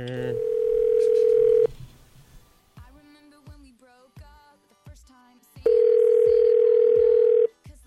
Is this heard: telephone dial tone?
yes